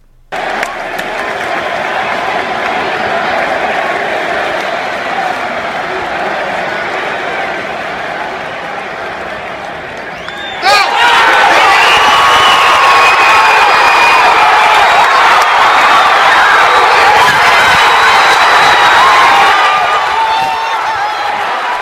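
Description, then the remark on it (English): A huge baseball stadium crowd at Derek Jeter's last at bat roars continuously, then the noise surges abruptly louder about halfway through into sustained cheering, clapping and whooping that stays loud to the end. “This is my video of Derek Jeter's last at bat.”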